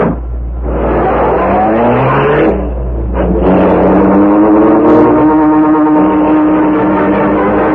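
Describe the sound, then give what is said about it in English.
A car engine turns over and roars to life, then revs up loudly with rising pitch, briefly easing off before accelerating again as the vehicle pulls away. “dragged the still unconscious man to the rear door of the building, and put him into the car.”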